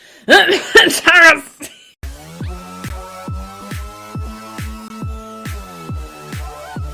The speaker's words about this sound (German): Scheiße, man muss ja husten, ne?